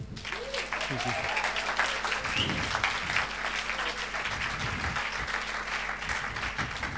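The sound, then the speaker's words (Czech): Sustained applause from an audience welcoming a guest speaker, a dense wash of many hands clapping at steady loudness, with faint voices and low hum beneath it. “A dneska na to téma bude mluvit někdo, možná někdo z vás zná, někdo ne, ale já si ho velmi vážím za to, co dělá pro Boha, za tu velkou práci, která za ním je, takže pojďme ho přivítat potleskem,”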